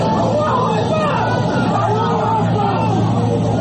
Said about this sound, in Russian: На улице разъяренная толпа.